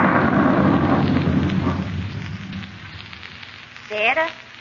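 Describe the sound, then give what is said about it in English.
A heavy roll of thunder opens loud and broad, then fades into a steady hiss of falling rain, with a brief voice sounding near the end. “Well, I'm going in. I don't like storms.”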